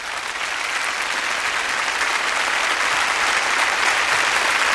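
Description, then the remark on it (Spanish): Steady audience applause as conductor Sir Neville Mariner comes onto the stage to lead the Academy of St Martin in the Fields, a dense, continuous patter of many hands clapping at even loudness throughout, with no voices rising above it. “Ha salido al escenario con los aplausos del público Sir Neville Mariner.”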